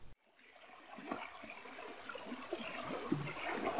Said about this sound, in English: were on the river going through some rocks. And I set my phone in between us and we recorded this little snippet right here.